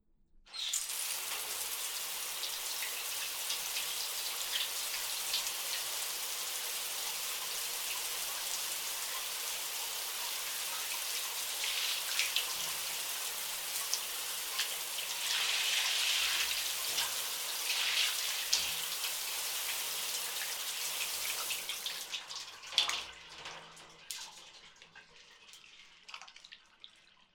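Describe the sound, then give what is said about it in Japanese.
Steady shower spray rinses shampoo foam off hair for about twenty seconds, a hissing wash of water that shifts slightly in tone before cutting off, leaving a few faint drips. No one speaks. “シャワーで泡を洗い流そう。”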